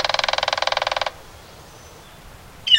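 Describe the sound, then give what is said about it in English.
A woodpecker drums a rapid, ringing roll with its bill on a metal roof or gutter for about a second, loud, then stops; a brief high bird call follows after a quiet pause. “Members of the Woodpecker Percussion Band often choose early morning hours to wail away on metal roofs or gutters.”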